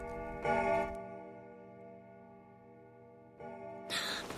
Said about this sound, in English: A velveteen rabbit pokes out of one of the stockings as a big clock chimes on the wall.